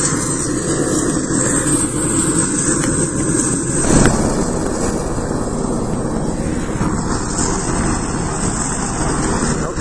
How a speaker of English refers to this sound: we're here at Fort Bragg, and we're at the 82nd Combat Aviation Brigade washstand, and what you hear there in the background is a Black Hawk helicopter. It's his APU is running. He's getting ready to fire it up and take off.